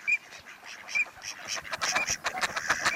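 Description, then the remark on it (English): A flock of dabbling ducks calls continuously, with overlapping quacks, short whistles and nasal notes in a busy, bustling chorus that grows denser toward the end. No one speaks. “After months of molting out of their nondescript late summer feathers, known as eclipse plumage, male dabbling ducks look their finest in late fall and winter.”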